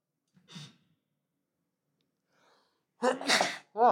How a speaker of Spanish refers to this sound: Ay, tengo que estornudar, disculpen.